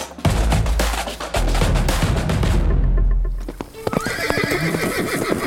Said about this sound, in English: rides her horse through the bush like she does every day.